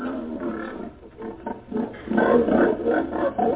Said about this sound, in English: Hey, you got pigs in here. Oh, you ain't sleeping with no dirty pigs, eh?